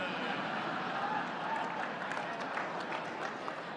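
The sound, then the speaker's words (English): A crowd of the press claps in a steady, moderate patter for a few seconds: dense, even, tepid applause without cheers or whistles, fairly subdued rather than rousing. “That was a tepid applause.”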